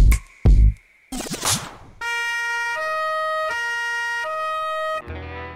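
police car siren approaching

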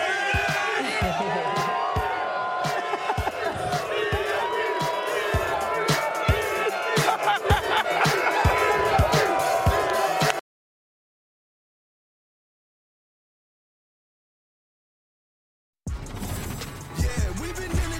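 crowd cheering

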